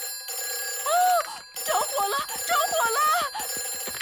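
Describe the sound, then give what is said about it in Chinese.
A fire station emergency telephone rings steadily and insistently for the whole moment in a Peppa Pig cartoon, its bright electronic tone sustained while animated voices chatter over it. “佩奇，那个是消防电话，只能在有火情的时候才能用。”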